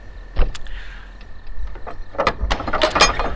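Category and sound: household object, heavy door being opened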